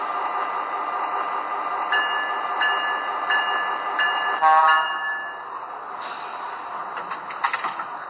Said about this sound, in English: Train number 15, the Flying Yankee.